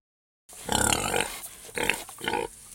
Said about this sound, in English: I'm a pig. A pink pig.